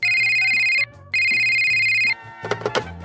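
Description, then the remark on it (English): A telephone rings twice as a phone call is being connected, each ring a steady, bright electronic trill lasting about a second, followed by a few clattering knocks as the ringing stops. “Okay, I'll connect you right away, but this is the last phone call I'm connecting.”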